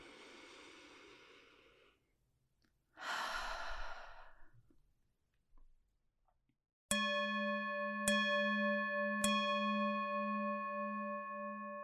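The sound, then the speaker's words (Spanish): A slow, deep breath drawn in and then released in a long sigh during a mindfulness exercise, with no talking, followed by a bowl-like bell struck three times and left ringing in a sustained shimmering tone. “Toma una respiración profunda.”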